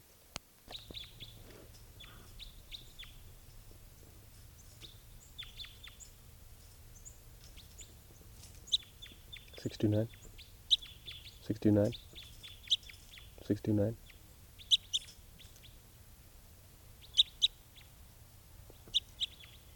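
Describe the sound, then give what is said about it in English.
Frequent high, quick bird chirps and tweets from a type 3 bird scatter throughout, joined midway by three louder, harsher calls spaced about two seconds apart, all over a low steady hum. “Type 3 bird here.”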